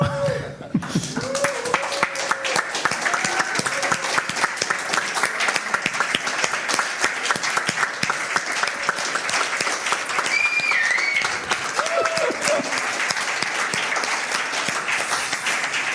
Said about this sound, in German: Irgendwie war es so extrem still nach diesem Slide jetzt hier. Also ich hätte mir jetzt Applaus, Jubel, was auch immer.